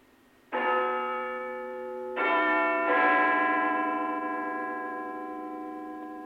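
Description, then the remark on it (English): Big Ben, the Westminster clock tower bell, chimes three times in a slightly wobbly 1976 live BBC Radio broadcast, the second and third strikes coming close together, each note ringing out richly and lingering in a long, slowly fading hum. No voices. “Now over to Westminster, hopefully, for the chimes of Big Ben.”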